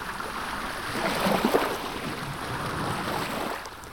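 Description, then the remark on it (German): Water splashes and laps steadily against a boat heading out into the skerries of the Stockholm archipelago in Sweden, with a broad rushing wash and a faint engine-like rumble underneath, continuous throughout. “Nichts klingt mehr nach Sommer in Schweden als das Plätschern der Wellen und das Kreischen der Möwen, wenn es mit dem Boot raus in die Schären geht.”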